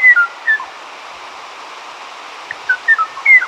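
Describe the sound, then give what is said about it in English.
Kauai O'o song, from a now extinct bird once of the high, dense forests of Kauai, unheard since 1987 and kept on tape: a few short, clear whistled notes, a pair at the start and a quick cluster near the end, set against a steady background hiss with no voices. “The tranquil song of the Kauai O'o graced the high-dense forests of Kauai until 1987, when it was heard no more.”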